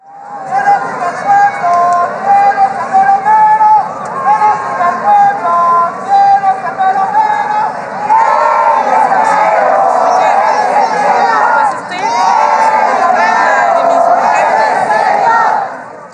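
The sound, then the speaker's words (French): A loud crowd chants in call-and-response on a cool evening, a priest in a cassock leading phrases and many voices answering in rhythmic bursts, a chant equivalent to "Who is the great chief? It's the Lord!" The chanting runs continuously, swelling into a fuller group sound in the second half. “J'entends un chant scandé par un homme à qui son entourage répond.”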